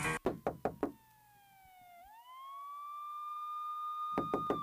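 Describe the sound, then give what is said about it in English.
A quick series of loud, sharp knocks on a door, then a sustained siren-like wailing tone that dips and rises, and another burst of rapid knocking at the end. “Hey yo, who is that knocking at the door?”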